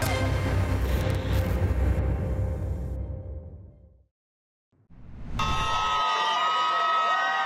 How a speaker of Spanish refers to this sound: En medio de gritos de alegría fue recibido el rehén